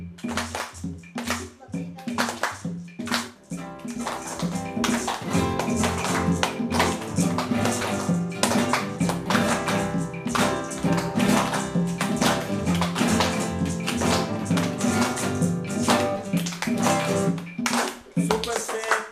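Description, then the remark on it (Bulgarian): A group claps a simple, even rhythm together with their hands, the claps sharp and loud throughout, while guitar chords are strummed over a track they recorded together, the guitar holding a full harmonic backdrop. “И ще се опитам всички заедно да направим един прост ритъм с ръчички, с пляскане.”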